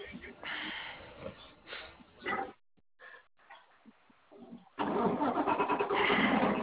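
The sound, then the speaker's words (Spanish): A car engine cranks in uneven bursts, falls quiet briefly, then catches and settles into a loud, steady running rumble. “Aguanta, porque este carro no lo conozco.”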